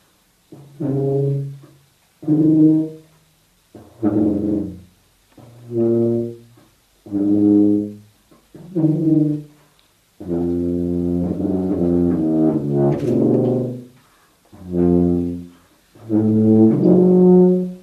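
A horn plays softly, pianissimo, a series of short, held low notes separated by brief pauses, then a longer phrase with shifting pitches before a few more separate notes. No voices.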